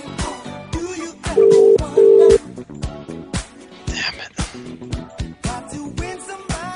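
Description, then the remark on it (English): A phone call to a UK number: two loud, steady telephone beeps sound in quick succession like a busy signal, set against a cluttered background of tonal sounds and sharp clicks. “Someone's on the phone. Someone's actually busy right now in the UK, huh?”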